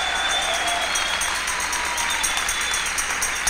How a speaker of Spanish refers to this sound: ¿Quién le da un aplauso al Dios de la gloria?